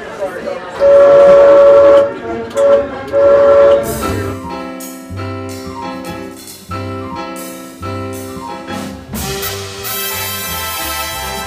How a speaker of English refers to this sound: Yesterday morning, they cut the ribbon on the Lynx Blue Line, and the first train pulled out of the Transit Center station on Trade Street with CAT CEO Ron Tober at the controls.